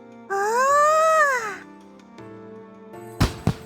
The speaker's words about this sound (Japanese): あ、 何？ 花火？お土産落とすところだった。 私を差し置いて打ち上げ花火とは景気がいい。